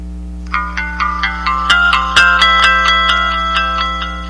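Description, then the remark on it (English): A mobile phone's startup jingle plays after the phone is turned on by holding down the end key for a couple of seconds, signalling the phone is active: a short, bright electronic melody of chiming notes with a shimmering, effected tone, heard alone over a steady low background hum. “All right, so I'm going to open the phone now, and I'm going to turn on the phone by pressing the end key and holding it down for a couple seconds, and pretty soon you should be hearing some music letting us know the phone is active.”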